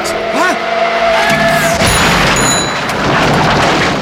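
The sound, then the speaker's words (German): A car with its headlights off screeches in the dark, then slams into a person with a loud crash, followed by a sustained wash of crunching debris and tinkling glass. “Er sah den Wagen erst, als es zu spät war.”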